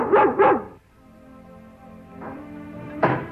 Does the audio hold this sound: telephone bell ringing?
no